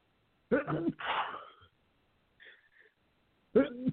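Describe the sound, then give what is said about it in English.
One loud sneeze: a short voiced build-up bursting into a breathy, hissing blast. A brief quiet follows, with a faint small noise, before a voice starts up again at the end. “Excuse me. God bless you”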